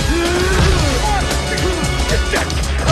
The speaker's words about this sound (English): Rocky gets a punch back at Tommy's face.